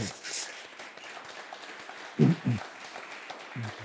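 An audience applauds steadily, a dense crackle of many hands clapping throughout, with a few louder low thumps or muffled voices poking through near the end.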